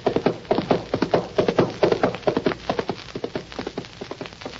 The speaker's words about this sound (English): Nice horse. Nice? Who you trying to kid, mister? That's Snowflake. Yeah? Good horse, eh? There ain't no better.